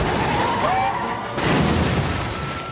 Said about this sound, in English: He crashes into a line of water-filled drums.